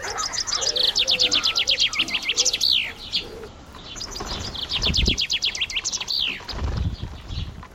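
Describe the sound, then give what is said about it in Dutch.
Small songbirds, finches and sparrows, chirp in quick, bright trills that come in two dense bursts, lively, with a few soft low thumps underneath and no talking. The finches sit in a sheltered nest and the sparrows sit around bird seed. “Ik zie ook een nest met vinken veilig beschermd en de mussen zitten rond met gierige ogen het vogelzaad te benijden die ik met kwistige hand aan mijn zangers geef.”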